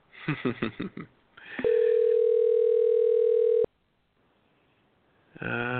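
A single steady electronic telephone ring tone from a Palos Verdes phone system, a loud, even buzz lasting about two seconds, follows a few short voice-like bursts, then cuts off to near silence before more sound begins.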